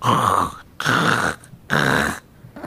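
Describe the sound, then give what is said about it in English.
A person imitates a jaguar's growl: three loud, rasping bursts, each about half a second long, separated by brief pauses, with no talking. “They have a curious growl that's sort of like a...”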